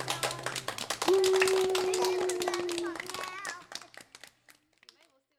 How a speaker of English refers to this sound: Everybody give yourself a big hand.